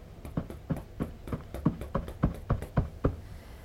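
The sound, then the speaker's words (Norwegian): Ten soft, muffled knocks on a sofa cushion, struck in a steady, even rhythm with no talking in between. “Bank 10 ganger i sofaputen.”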